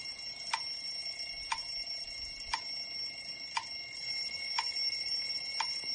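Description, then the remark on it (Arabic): A soft, repeating electronic alarm tone from a voice assistant, set up as a calm, orderly alarm, chimes about once per second, six evenly spaced bright pings over a steady faint hum, calm and unhurried with no talking. “خلاني منبه لكن بشكل ايش هادئ ومرتب.”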